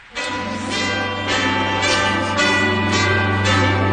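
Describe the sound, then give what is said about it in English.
A doorbell chime plays a ringing multi-note melody, its bell tones struck at a steady pace and sustaining into one another, fairly loud, with no voices. “Well, that's interesting, because I think it's year-round, and I've got the doorbell to prove it.”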